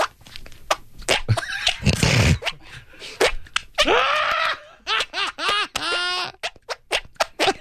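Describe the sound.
Fart noises squeezed from the backs of the knees: a burst of rough, flapping squelches, then a rhythmic run of short squeaky toots, with some laughter mixed in.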